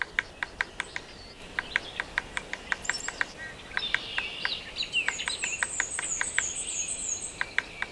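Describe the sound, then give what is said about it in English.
A yellow-bellied sapsucker drums in a stuttered, irregular series of sharp taps, like Morse code, while thin high chirping calls rise and repeat in the second half. No one speaks. “To find a yellow-bellied sapsucker, listen for its loud, scratchy, and nasal mewing call or stuttered drumming that can sound like somebody tapping out Morse code.”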